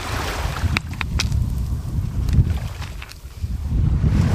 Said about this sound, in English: Well, now I'm going to do something that she would normally be doing, which is touching the water as it comes in. Hello, water.